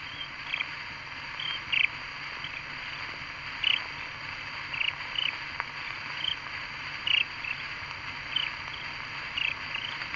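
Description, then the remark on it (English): Frogs call from a brook at night in short, chirpy bursts at irregular intervals over a steady wash of night insects, several voices overlapping, with no one speaking. “The little frog in the brook that flows by my cabin is nightly calling and listening, until his bulbous-throated brothers respond in chorus.”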